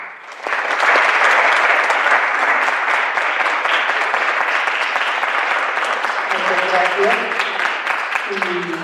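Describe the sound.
A sustained burst of audience applause thanking a professor for a lecture, dense and steady clapping for nearly nine seconds, with a voice beginning to speak faintly over it near the end.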